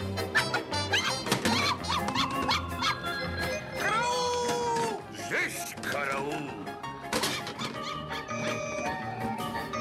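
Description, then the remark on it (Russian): A dog yips and lets out high, squeaky whines in a room, mixed into a dense, busy background with voices talking throughout. “Пропустил сюда собаку! Уберите ее! Она меня покусает!”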